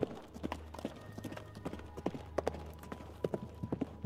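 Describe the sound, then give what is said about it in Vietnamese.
Horse hooves clip-clop inside a hotel in a steady, irregular rhythm of sharp knocks, over a low rumbling background hum. “Lẽ nào là tiếng vó ngựa?”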